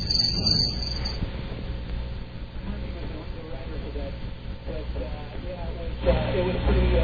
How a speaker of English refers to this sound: Wait till he hears the crickets.